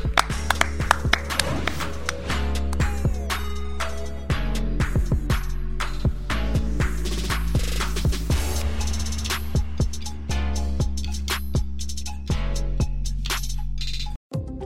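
Scattered hand claps ring out in an irregular, sharp burst over a steady bed of sustained musical tones, with the claps thinning out toward the end.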